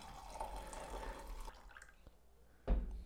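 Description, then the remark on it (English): Coffee pouring from a batch brewer: a steady liquid stream trickling into a cup for about a second and a half, a quieter pause, then a brief louder splash near the end. “But yeah, let's pour some batchy.”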